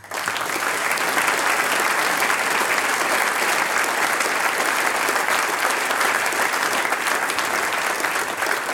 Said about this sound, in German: großer Applaus für dich und deine Familie. Schön, dass ihr da seid heute.